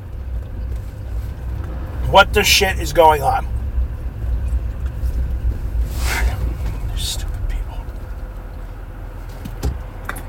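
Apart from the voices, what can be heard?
road traffic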